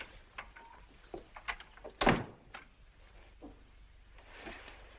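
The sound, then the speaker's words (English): A door swings shut with a single solid thunk as a man walks out, amid faint shuffling and small room noises before and after. “He walks out.”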